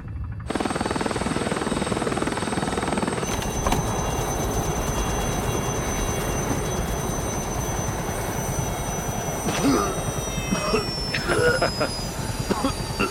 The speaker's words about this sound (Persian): ببینم میشه یکم هلیکوپتر مایل باشه؟